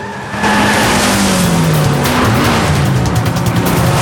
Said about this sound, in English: He spins the car round and races off in the other direction.